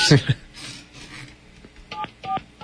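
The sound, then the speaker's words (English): A few short, clear phone keypad dialing tones beep in quick succession as a phone number is dialed, preceded by a brief rustle and faint background murmur. “And then he emailed us her phone number.”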